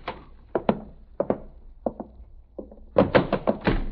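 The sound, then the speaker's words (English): A door being opened: a string of hollow wooden thunks and knocks, spaced out at first, then a quicker, louder cluster of clunks and rattles at the end, with no voices. “Okay, I'll open the door.”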